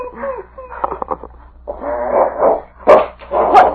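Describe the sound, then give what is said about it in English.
King, Sergeant Preston's dog, growls and snarls in rough, rumbling bursts, then lets out a couple of sharp, louder barks toward the end, all without any talking. “Hang on to that dog.”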